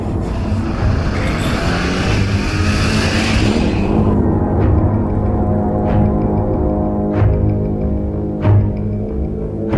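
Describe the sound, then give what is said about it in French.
A car engine roars as the car accelerates, loud and steady, a rushing hiss fading after a few seconds while the motor keeps droning with a few sharp clicks. “Je devrais accélérer.”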